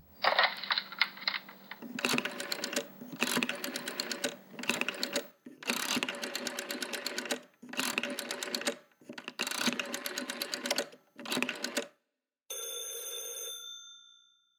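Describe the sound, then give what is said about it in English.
A rotary telephone dial whirs and clicks through about seven quick bursts, each a rapid rattle of clicks, as someone calls the 25th Precinct police headquarters, followed by a single steady, tonal ring on the line. No one speaks. “I'll call him. Get him to give you a rundown on me, and then we'll both go on over to the headquarters.”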